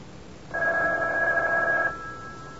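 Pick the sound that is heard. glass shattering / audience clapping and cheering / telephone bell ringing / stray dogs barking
telephone bell ringing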